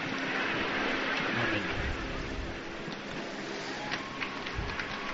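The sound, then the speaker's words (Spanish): A large crowd of young people gathered on the Atlantic promenade of Copacabana applauds after the final prayer, a dense, steady wash of clapping that holds an even loudness throughout, with a few sharper individual claps standing out toward the end. “Bien, pues esa ha sido la oración final y ahora el aplauso de todos los jóvenes congregados en este paseo atlántico de Copacabana.”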